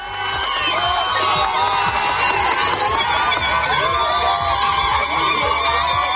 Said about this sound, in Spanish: Y ya lo escuchas, cientos de personas aplaudían esta medianoche cuando se abrían de nuevo los pasos fronterizos.